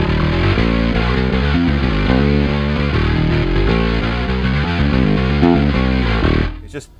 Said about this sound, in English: This, I've got like the Quad Cortex just came out with the new update, so you can put like some of the plugins that you own. So like the Parallax bass distortion plugin, I love it.